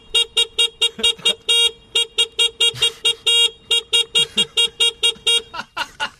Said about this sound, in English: So, remember, they're all current chart hits. I'll give you a point for each one if you get it right. So, are you ready for the first one? Here's me on my camp scooter horn. But what chart hit is this, everybody?